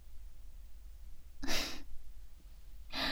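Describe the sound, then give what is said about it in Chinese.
Heavy, breathy exhalations from someone winded and tired, two loud puffs of air separated by a pause, with no talking. “可我看你累的哼哧哼哧直喘气呢。”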